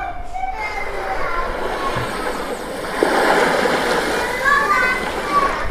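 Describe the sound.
Water splashes steadily at a busy beach while children's voices shout and chatter throughout, a lively outdoor wash of play and surf that grows a little louder midway.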